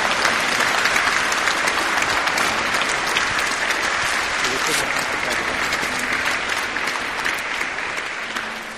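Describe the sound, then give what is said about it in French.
A large crowd applauds steadily, a dense wash of clapping that stays loud for several seconds before easing slightly at the end. “Remerciez avec moi. Applaudissez, s'il vous plaît.”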